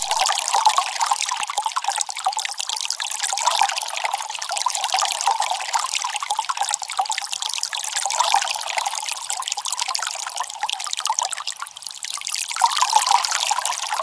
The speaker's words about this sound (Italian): Vi offriamo 15 secondi d'acqua.